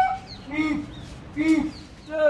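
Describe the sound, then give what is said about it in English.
A man hired by the city of Delhi imitates a langur monkey call to scare smaller rhesus monkeys away, letting out two loud, harsh, throaty whoops with thinner high-pitched squeals before, between and after them. “Have men mimic the fearsome langur monkey sound to scare the nettlesome smaller monkeys away.”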